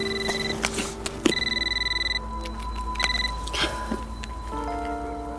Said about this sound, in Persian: موبایل عشرت زنگ میخوره.